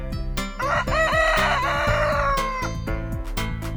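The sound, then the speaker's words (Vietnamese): A single loud rooster crows a long, drawn-out cock-a-doodle-doo, clear, over a steady backdrop of music with rhythmic percussive hits. “Tôi dậy từ lúc gà gáy cơ.”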